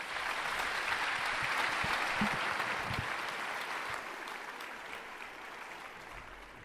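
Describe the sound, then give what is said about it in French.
An audience applauds a speaker going to the podium at a lecture, with dense, steady clapping that stays loud for several seconds, then thins slightly and continues at a lower level toward the end. No one speaks over it. “je vous propose d'aller au pupitre et je vous propose également de l'applaudir.”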